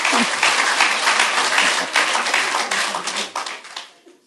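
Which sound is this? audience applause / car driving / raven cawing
audience applause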